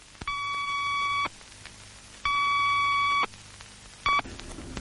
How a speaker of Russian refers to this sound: За 4 секунды до взрыва начали подаваться предупредительные сигналы времени. Два длинных и короткий.